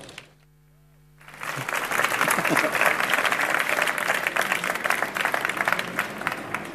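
After a second of near silence with a low hum, an audience bursts into sustained applause, a dense, steady wash of many hands clapping that holds loud to the end.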